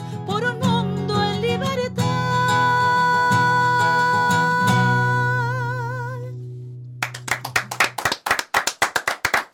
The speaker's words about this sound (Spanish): escuchan los aplausos. Se armó el auditorio, sí. Se armó la peña aquí en Radio Nacional Santa Fe.